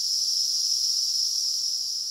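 A dense, continuous high-pitched drone of many cicadas that have emerged en masse and are calling to find mates, steady and loud throughout with no pauses, like a shimmering wall of insect noise filling the air.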